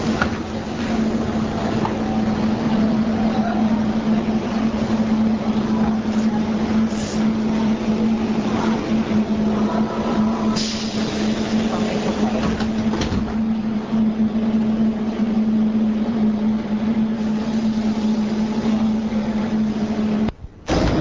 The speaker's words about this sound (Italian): Ed eccoci pronti a prendere la metropolitana. È abbastanza vuota, fortunatamente.